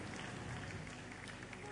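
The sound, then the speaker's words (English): An audience claps steadily and densely during a Christian worship service, a continuous wash of many hands with no pause, loud, with faint voices mixed into the applause. “Let's keep clapping until they leave.”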